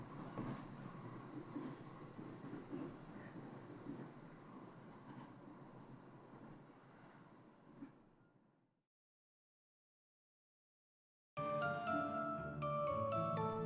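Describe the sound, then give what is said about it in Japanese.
A steady train-interior rumble, heard while riding a train, runs for several seconds and then fades into silence. Music starts a couple of seconds later. Nobody speaks. “流れる景色をぼーっと見つめ、私は淡い期待を持ちながら電車に乗っていた。”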